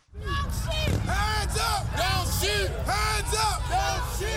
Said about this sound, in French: avec des éclats de voix, les manifestants ont défilé pendant des heures dans la ville de Baltimore. La foule en colère a érigé des barricades par endroits pour exiger de l'explication sur ce dernier acte de brutalité policière.